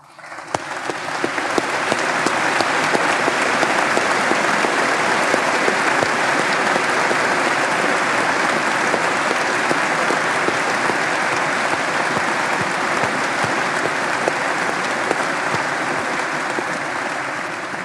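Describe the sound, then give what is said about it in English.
Sustained audience applause from a large crowd at BYU welcoming 108 new faculty members as they stand before the school year begins, a dense steady wash of clapping that rises quickly and holds at full strength for about eighteen seconds with no talking. “Will you please stand so we can welcome you with warm applause?”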